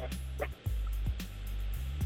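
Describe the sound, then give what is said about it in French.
Many dogs bark in short, scattered bursts at a caller's home, somewhat muffled, heard over a steady low electrical hum like a poor phone or radio line. “Et aussi, y a beaucoup de chiens aussi chez toi là.”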